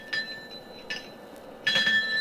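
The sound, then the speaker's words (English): A small hand bell, the second of two, tinkles in a couple of brief shakes, then a longer jingling ring, its bright high tone lingering softly. Fairly quiet, with no talking. “Now ring the other.”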